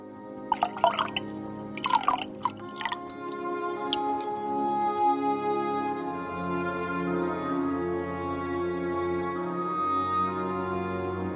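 Water splashes and drips into a flowerpot in a few quick, bright bursts over the first few seconds, then stops, leaving a steady, sustained musical tone.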